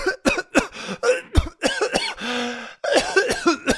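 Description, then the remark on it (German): A series of harsh, rapid coughs from one person with a lingering cough, broken by a drawn-out raspy, wheezing breath before another burst of hacking coughs. “Ich habe seit einer Weile diesen Husten, den ich nicht mehr wegbekomme.”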